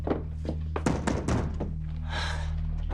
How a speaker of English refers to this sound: Jamie slams the door shut.